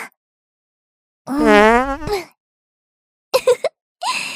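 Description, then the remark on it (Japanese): An older sister's long, squeaky fart with a wavering, buzzy tone lasts about a second, followed by a few brief breathy bursts and rustling. “お姉ちゃんのおなら、とっても強烈でしょ？”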